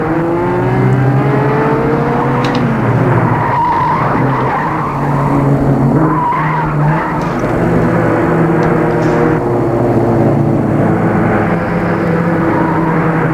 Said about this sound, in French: Les voitures la dépassent.